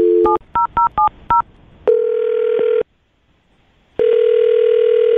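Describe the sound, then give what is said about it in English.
A quick run of five touch-tone beeps as a woman's phone number is dialed, followed by long, steady electronic ringing tones separated by a pause. Clear, with no voices. “I'm going to dial her phone number right now and see if we can get her on the phone and find out why.”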